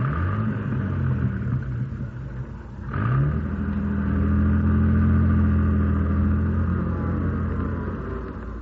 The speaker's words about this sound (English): Now drive this jalopy across the road.